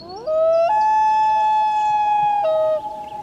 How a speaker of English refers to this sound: The call of the common loon is a symbol of the far north. Hear a loon in a movie? And there's a good chance the scene isn't far from the Arctic Circle.